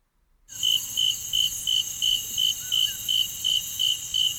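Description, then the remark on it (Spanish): Crickets chirp in a steady, even rhythm, about ten short high-pitched pulses over a constant shrill insect drone, with no voices present. “Cri, cri.”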